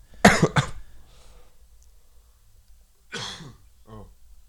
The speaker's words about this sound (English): was coughing, and then I was like, wait.